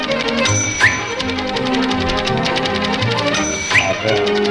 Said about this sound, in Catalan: Anem a la màquina d'escriure